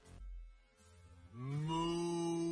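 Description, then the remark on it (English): A single loud cow moo sound effect: a low rumble at first, then a drawn-out bellow that swells and holds steady until the end. “Moo. Hit that like button. Moo.”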